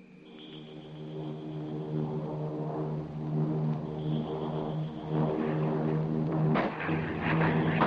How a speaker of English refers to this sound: Is that the plane now? That's his signal. The pilot has just flipped his motor. That means he's dropped the flare. He's flying high, so it'll take a few seconds for it to come down.